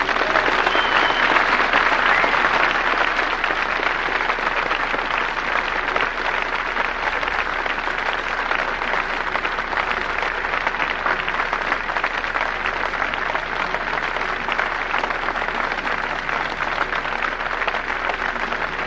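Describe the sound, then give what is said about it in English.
Sustained applause from a large audience welcoming the Reverend Dr. Martin Luther King, Jr. A dense, steady roar of clapping holds at an even, loud level for the full stretch with no voices breaking through. “Thank you very kindly for your heartwarming applause.”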